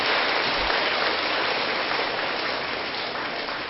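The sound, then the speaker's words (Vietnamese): An audience at a Buddhist retreat applauds as a pledge to commit to the teaching, a dense, continuous wash of clapping that holds at an even, fairly loud level for the whole stretch and eases only slightly toward the end. No one speaks over it. “Nếu quý vị thấy điều đó là thực hiện được, hãy dâng cao tràng vỗ tay để cam kết.”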